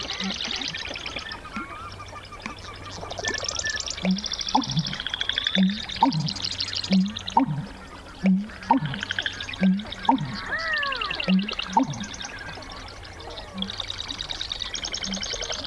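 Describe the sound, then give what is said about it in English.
A dense marsh chorus of overlapping bird songs and trills from marsh wrens, Virginia rails and soras greeting the day in a marsh prairie, with a steady series of deep, rhythmic gulping pulses from an American bittern repeating underneath for several seconds. Recorded by Lang Elliott of Nature Sound Studio. “Lang Elliott of Nature Sound Studio recorded this lively bird symphony in a marsh prairie.”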